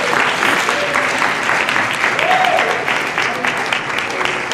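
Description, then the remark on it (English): An audience claps hands steadily and loudly throughout, a dense wash of overlapping claps with faint voices calling out beneath. “Now y'all need to clap y'all hands right there.”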